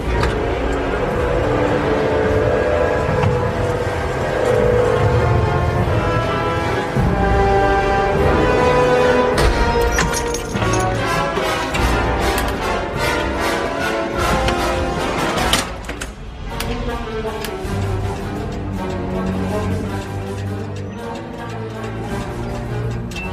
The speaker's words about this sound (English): Preparing silo 3 for firing test missile. Power up console for missile launch. Number 3 launch door opening.